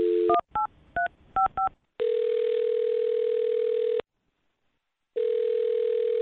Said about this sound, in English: Well, I'll dial her phone number right now and see if we can figure it out. Here we go.